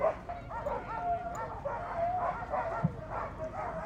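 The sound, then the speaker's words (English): A pack of excited sled dogs barks and yips continuously at a race starting line in Mountain, Wisconsin, as they are patted and readied; many overlapping voices with high whines mixed in and a low murmur of voices underneath. “We're at the starting line now. Quince is going up and patting the dogs, getting them all ready.”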